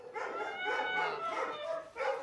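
Several dogs bark, yelp and howl together in a continuous overlapping chorus, fairly loud and echoing, with no one speaking, at an animal shelter in Lübeck, Germany.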